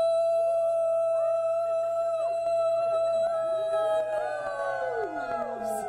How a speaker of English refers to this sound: wolves howl, wolves overwhelm the tree line, wolves know the moon, their silhouettes, wolves, wolves, who will howl